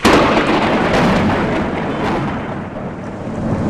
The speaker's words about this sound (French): Un orage sur Rome, le bruit de l'éclair et les trompes d'eau sur la place Saint-Pierre et la rue de la Conciliazione et la grande artère qui mène à la basilique.